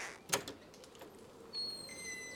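A door opens: one sharp latch-like click, a few softer rattles, then a thin, steady high-pitched squeal or whine as it swings, with no voices.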